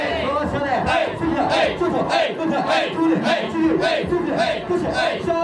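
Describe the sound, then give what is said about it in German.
A group of male hosts in Japan performs a champagne call (champankoru) for a female customer, dancing and clapping while chanting loudly in unison, rhythmic shouted call-and-response phrases repeating in quick bursts, energetic and continuous throughout. “So als wäre plötzlich ein Schalter umgelegt, rauscht eine ganze Gruppe von Hosts aus allen Ecken herbei und tänzelt, klatscht in die Hände.”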